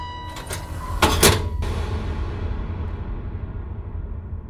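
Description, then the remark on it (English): A heavy metal door creaks on its hinges as a city worker swings it shut with a loud, echoing clang that rings out and fades into a low background rumble. “the city worker reached past Tom and swung the heavy metal door in front of him”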